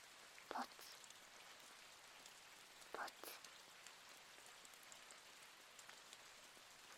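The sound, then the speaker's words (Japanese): Steady rain patters on a surface as a soft, continuous wash, with a couple of sharper, louder drips or taps standing out briefly near the start and around the middle. “でも雨の音が気持ちいい。その音を聞くだけで体がリラックスできる。”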